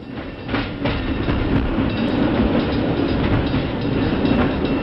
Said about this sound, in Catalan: arriba el tren a Sant Cugat.